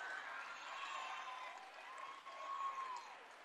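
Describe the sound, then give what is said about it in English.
A steady round of applause from a basketball crowd for Tristan Farley as he fouls out of the game, a dense wash of clapping that holds at an even, moderate level for a few seconds with a faint murmur of voices mixed in. “And listen to the round of applause for Tristan Farley.”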